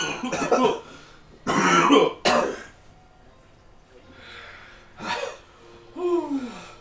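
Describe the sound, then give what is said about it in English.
A person coughs hard in several harsh, raspy bursts after eating very hot sauce, falls quiet for a moment, then lets out one more cough and a strained, groaning gasp. “Coughing is worse.”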